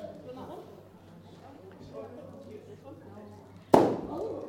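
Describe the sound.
A single sharp, loud balloon pop, in a game where teams choose balloons for points, bursts out near the end, ringing briefly as it fades, after several seconds of low murmuring voices in the background.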